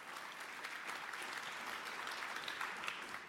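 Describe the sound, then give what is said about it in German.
An audience claps steadily to welcome the speakers of a talk on net neutrality presented by Epicenter.works and Gesellschaft für Freiheitsrechte, a dense, continuous patter of many hands at an even level for the whole stretch, with no voices standing out. “Bitte gebt ihnen einen warmen Applaus.”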